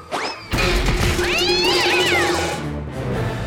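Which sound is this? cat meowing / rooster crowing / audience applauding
cat meowing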